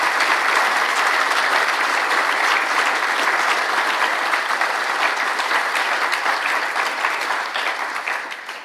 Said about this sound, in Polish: chciałbym gorąco poprosić, jak zawsze tradycyjnie, w takiej formie oklaskowej o podziękowanie.